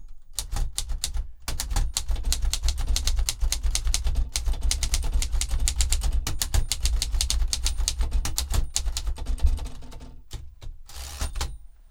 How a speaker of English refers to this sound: Yes, it's a black, bulbous, streamlined Art Deco machine made in 1937. It's called the Remington 5 Portable, and it's very shiny. I can type a bit on it if you'd like the audience to hear a little.